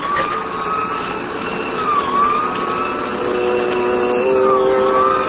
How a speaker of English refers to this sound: We both heard the siren then. He looked quickly in the rear vision mirror.